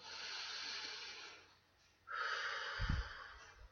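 A slow, deep breath drawn in, a brief pause, then a long airy exhale with a soft puff partway through.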